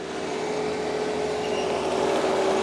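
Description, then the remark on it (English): A small tractor, run by a neighbor, drills holes in hard-packed volcanic soil on a fenced-off acre of flat, fallow field used as a pot farm, making room for compost and marijuana plants. Its engine is a continuous droning rumble with a constant low humming tone, loud and unbroken, with no voices. “Rita's hired a neighbor with a small tractor to help get her started.”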